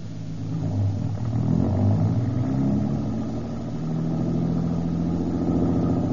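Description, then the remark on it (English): A car engine revs up and accelerates, its low rumbling drone rising and holding steady as the vehicle pulls away and drives off up the street, loud with no voices. “Hop in. Where do we go now? Just up the street away, out of the general's line of vision.”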